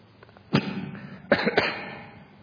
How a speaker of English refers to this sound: When it does blow, my goodness, it makes a huge noise. And it also sprays people around you, which is not good for your health. So just cough and avoid the volcano effect.